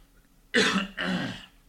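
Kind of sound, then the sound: human body sound, cough into the microphone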